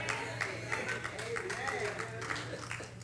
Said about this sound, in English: Thank you for the sad hand clap, but it is true anyway.